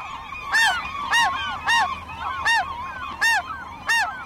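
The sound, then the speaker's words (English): Gulls call over and over in harsh, honking cries, about six loud squawks with fainter overlapping calls between them, a steady excited chorus with no talking, from a flock of about 100 gulls in a bay in a feeding frenzy, plunging into a herring ball near the surface and competing for the food. “I could hear the frenzy in their calls as they competed for the food, and so apparently could other gulls, who detoured from their flight line to join the melee.”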